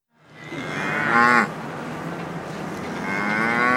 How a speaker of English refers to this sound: Sharon and Keith Portnier raise hundreds of cattle on a vast ranch in central Nebraska.